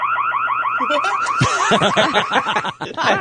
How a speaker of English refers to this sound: He set himself off. It's like a car alarm.